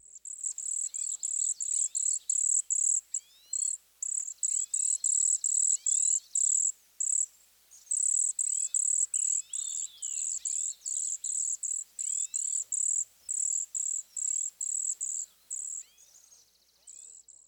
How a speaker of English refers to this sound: Our next category is called high pitchers. These birds are grouped together because they all have very high pitch notes in their songs or calls. We'll start out with the cedar waxwing. This attractive species gives a simple, high-pitched z-z-z-z-z.